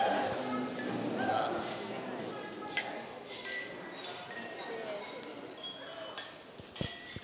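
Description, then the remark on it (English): Several wine glasses clink together in a toast to the bride, a scatter of bright, sharp chimes over a busy murmur of people chatting, with a couple of louder clinks near the end. “I'd like you all to raise your glass one last time for the bride.”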